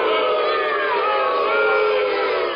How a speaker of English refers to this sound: Crowd not happy.